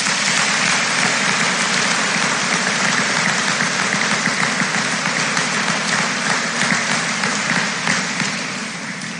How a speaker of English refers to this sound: Please join me in giving these Fort Recovery Alumni Association Scholarship recipients a round of applause.